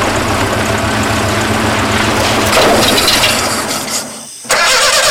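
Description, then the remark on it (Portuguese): A car engine cranks over and over with a rough, grinding churn that never catches, stalls briefly into near silence, then the starter grinds loudly again. No voices. “O carro não dá partida?”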